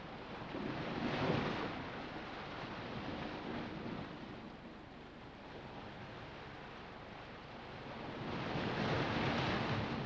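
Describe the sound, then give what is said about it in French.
Waves crash against rocks on the shores of the Goubet in steady surges, a broad roaring wash that swells near the start and again toward the end, with a constant rumble of surf and wind in between. “Sur les rives du Goubet, les rochers battus par les vagues sont enduits d'une mince pellicule d'algues bleues”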